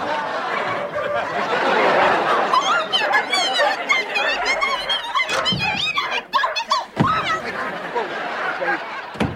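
dogs barking

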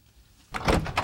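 door being opened

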